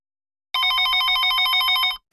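An old-style telephone bell rings in one continuous rapid trill for about a second and a half, loud, then cuts off abruptly with a brief click.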